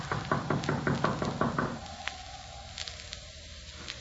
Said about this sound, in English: We gotta let Doc know we're here some way or other. I reckon it won't hurt nothing to tap on the door sort of general.